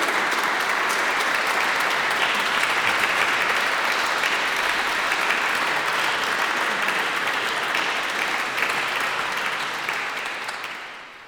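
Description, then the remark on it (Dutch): Sustained, dense applause from an audience in a church, welcoming the author of a book: a steady wash of many hands clapping at an even level for about ten seconds before tapering off at the end. No voices are heard. “Ik zou zeggen, verwelkomt u hem, want dat is toch altijd fijn voor de man zelf natuurlijk. Met een warm applaus,”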